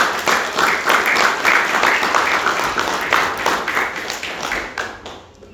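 A church audience applauds steadily as a man comes up to share his testimony, a dense wash of many hands clapping at a fairly loud, even level that begins to thin and fade out toward the end.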